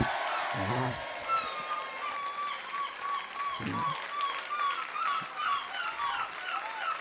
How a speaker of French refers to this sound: Et là, les gens seraient heureux, voilà, y aurait des applaudissements.